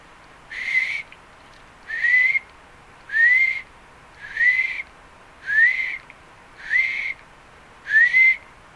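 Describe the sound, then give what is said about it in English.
A bird repeats the same short, rising whistled note seven times at a steady pace of roughly one per second, clear and fairly loud, with no voices and only faint background hiss between calls. “If you're doing meditation at home and there's lots of birds, try to zero in on a sound like a bird sound singing that's repetitive, that just keeps repeating.”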